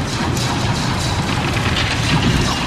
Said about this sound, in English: Careful! The ice is cracking. Maybe it's our weight.